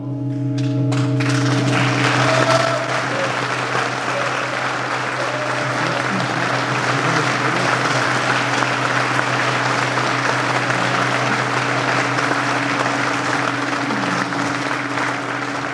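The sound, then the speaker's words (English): A large audience applauds steadily and loudly in a reverberant church, celebrating a new organ pipe tuned to D natural, the dense clapping holding for the whole stretch while a low, sustained organ drone hums underneath. “After the applause, the crowd broke up and people walked around the church.”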